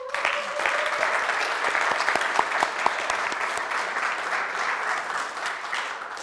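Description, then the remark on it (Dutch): An audience at a church communion service claps steadily for several seconds to welcome guests, a dense wash of hand claps with a few sharp individual claps standing out, sustained at an even level throughout. “Geef ze eens een applaus.”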